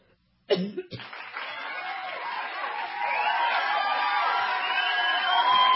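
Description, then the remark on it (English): A short cough, then a crowd applause sound effect: a big crowd bursts into sustained cheering and applause that swells louder halfway through and keeps roaring to the end, with scattered whoops rising above the din. “Do we have the crowd, perhaps a little applause?”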